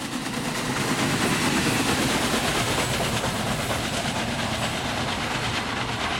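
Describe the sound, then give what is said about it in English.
The Big Boy 4014 steam locomotive, 133 feet long and weighing 1.2 million pounds, rolls along Union Pacific Railroad tracks between Morgan and Echo. It is loud, with a steady heavy rumble and a continuous rhythmic clatter of wheels throughout. No voices are heard. “At 133 feet long and weighing 1.2 million pounds, the Big Boy 4014 is the world's largest operational steam engine.”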